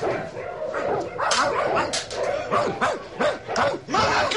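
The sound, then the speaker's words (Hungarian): Several dogs are let loose and bark and yip excitedly in a rapid, overlapping chorus. The barking is loud, with whimpering mixed in, and continues throughout without pause. “Péter, Péter! Engedd ki a kutyákat!”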